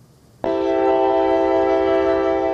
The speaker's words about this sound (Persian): پس از توقف بیشتر از دو ساله، قطاره کلوب ولگاگراد صبح روز 16 آگوست به دوشنبه رسید و نزدیک ظهر از دوشنبه به سمت ولگاگراد حرکت کرد. در ایستگاه راه آهن دوشنبه مسافران زیادی به این قطاره چیپته خریده و از می سفر داشتند.